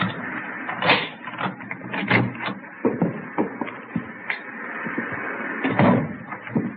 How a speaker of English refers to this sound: Here's the front door key. See if you can work it. Well, I know how it works. You go ahead and open it.